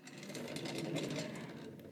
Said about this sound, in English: I'm just gonna wheel my desk chair over.